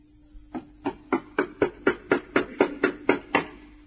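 A steady series of about a dozen firm knocks on a door, evenly spaced at roughly three per second, with nothing else audible.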